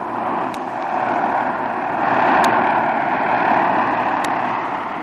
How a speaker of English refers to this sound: As Jim's plane glides to a landing